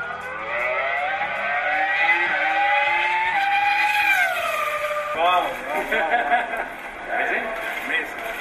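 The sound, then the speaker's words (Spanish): The engine of the 2005 R25 world-championship Formula 1 car, driven for five laps in Abu Dhabi, screams loudly and continuously, its high-pitched whine climbing and then dropping, before shifting into a rougher, wavering rev pattern over the last few seconds. “se ha bajado del coche con una sonrisa de oreja a oreja después de pilotar, pues eso, el R25 de 2005”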